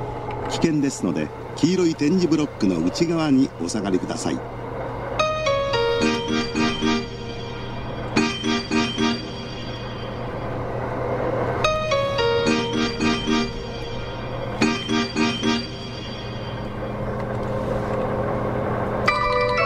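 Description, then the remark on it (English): Hankyu Railway station departure melodies: short, bright electronic chime tunes played in several repeated phrases with brief pauses, over a steady low hum, after a voice at the start. “Let's listen to a bit of the Hankyu Railway melodies, and then we'll play some of the Osaka Metro melodies.”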